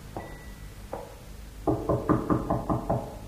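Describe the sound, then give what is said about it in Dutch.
Knocking on a door: two separate knocks, then a quick run of six or seven firm raps in a steady rhythm, fairly loud, with no voices. “Hier is een deur. Nou, klop er.”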